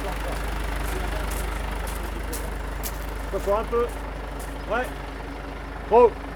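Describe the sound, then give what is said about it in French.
A heavy aerial lift truck, used to reach antennas, passes by on the heights of Aubusson, its engine rumbling low and steady, holding an even drone throughout, while a few brief voice fragments break in toward the end. “Ce qui vient de passer devant vous, c'est le camion nacelle qui va nous permettre d'accéder aux antennes.”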